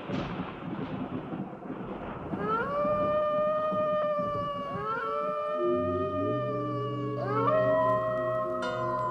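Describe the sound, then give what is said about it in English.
A black cat, Satan from the Witch's Tale, meows eerily in long, drawn-out, wavering yowls that bend in pitch, fairly loud over a low rumbling background, with no talking. “The fascination of the eerie, weird, blood-chilling tales told by old Nancy, the Witch of Salem, and Satan, the wise black cat.”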